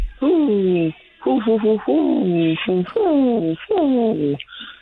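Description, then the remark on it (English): A voice imitates an owl call: a quick series of wavering, downward-sliding hoots and whoops, loud, with a thin, phone-line quality. “That was an owl call.”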